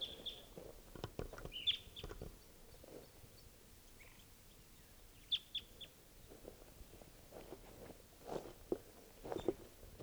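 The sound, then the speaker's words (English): Short, high bird calls ring out in scattered bursts, a few chirps at a time, over soft rustling and footstep-like thumps. No one speaks. A male bird calls louder from the top of a tree while other males come down. “And another one up in the top of the tree who's calling louder.”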